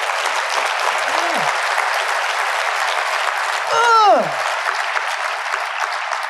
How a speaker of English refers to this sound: Give her a fucking round of applause.